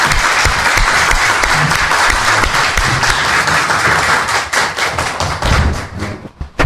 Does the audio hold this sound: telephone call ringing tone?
no